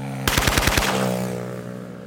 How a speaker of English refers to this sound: 2 weeks later, the same prison director is dead, gunned down by hitmen in a motorcycle drive-by shooting.